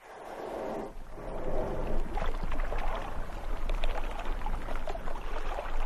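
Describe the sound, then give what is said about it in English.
Ocean waves wash steadily in a loud, broad rush of water with a low rumble underneath, briefly dipping before surging back up and churning on without any voices. “Those ocean sounds are telling me that it is time for us to leave solid ground behind and cast out into the unknown.”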